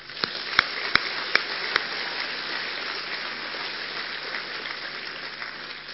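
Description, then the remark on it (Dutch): A crowd applauds in a steady, dense wash of clapping, with a few sharp, louder individual claps standing out during the first two seconds; no voices are heard. “Even een applaus.”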